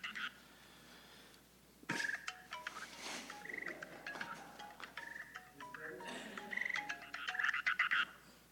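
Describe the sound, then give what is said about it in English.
A mobile phone ringtone plays for an incoming call from the speaker's wife, a repeating electronic melody of short bright tones and warbling chirps that keeps going for several seconds without any talking. “It's my wife, and she hangs up literally the moment I answer the phone.”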